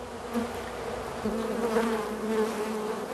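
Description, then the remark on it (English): A dense, steady drone of many bees buzzing together inside a beehive, where bees feed larvae in the comb, a continuous layered hum with slight shifts in pitch and no pauses, and no voices. “Look, LeVar, over here you can see a bee feeding one of the larvae.”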